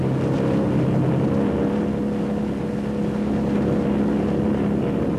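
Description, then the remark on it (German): A steady car engine drone with a low, constant hum and strong harmonic bands, running loud and unbroken for the whole stretch, with rough rumbling noise layered over it as the car drives through untouched, roadless wilderness in the heart of Africa, with no roads, paths or tyre tracks. “Durch vollkommen unberührte Wildnis geht die Fahrt.”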